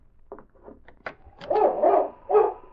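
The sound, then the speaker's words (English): A dog named King barks in a short run of low woofs, starting soft and quick, then building into several louder, fuller barks, with no one talking. “He was right beside the rear door, and he could hear King barking.”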